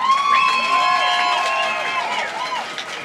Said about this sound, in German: Für die OrganisatorInnen einen riesengroßen Applaus.